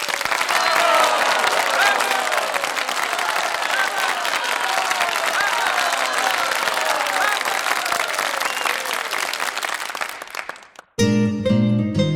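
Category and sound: crowd, crowd cheering and applause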